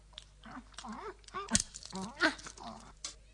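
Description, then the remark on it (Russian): Greedy crunching and chewing, a few sharp cracks over about three seconds, mixed with hummed, eager munching noises from a voice, apparently imitating a dog gnawing bones. “О, ой, какие тут замечательные кости. Спасибо. Дуду, ты друг собаки.”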